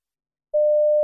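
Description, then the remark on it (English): After a brief silence, a steady telephone line tone starts at a single mid pitch and holds unbroken, clear and fairly loud, with no voices, heard while phoning the Positronic Information Service number for a free phone message about a new product. “You telephone a number in order to hear a free phone message about a new product.”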